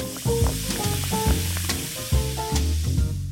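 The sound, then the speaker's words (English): Soda fizzes and crackles steadily as it's poured over ice with a distilled non-alcoholic spirit, with a few sharp clinks, while a short plucked musical phrase plays over it; no one speaks. “Coming up, a certain brand of distilled non-alcoholic spirit and soda over ice.”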